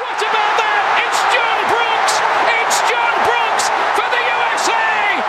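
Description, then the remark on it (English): A large crowd of soccer fans in Kansas City roars in celebration of the U.S. World Cup victory over Ghana, a loud, steady wall of overlapping voices with scattered whoops and high shouts rising above it throughout. “And here, sound from Kansas City at that victory. That is now homegrown American soccer enthusiasm.”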